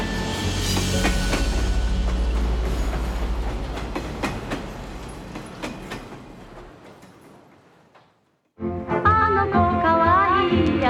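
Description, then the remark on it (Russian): A train packed with burned survivors rumbles loudly with rhythmic clacking wheels as it pulls away, departing for Nagasaki, Japan, the noise gradually fading. After a brief silence, music begins. “Наконец поезд трогается. Поезд отправляется в Нагасаки.”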